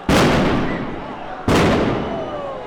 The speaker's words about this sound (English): Some were holding flares, smoke started to billow, and then eventually the police responded with tear gas. Here's a bit of what it sounded like.